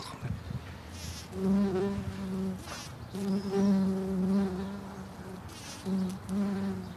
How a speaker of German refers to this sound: Was sind das für Viecher, die da jetzt auf diesen Pflanzen rumfliegen? Das sind also verschiedene Wildbeinarten.